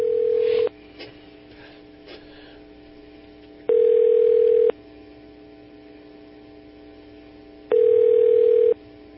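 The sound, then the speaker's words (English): Three rings of an outgoing phone call to the Sacramento office of Assemblyman James Gallagher, steady electronic tones of about a second each separated by roughly three seconds of quiet line hiss, fairly loud with no talking. “So, I think one ringy dingy. We're getting through here.”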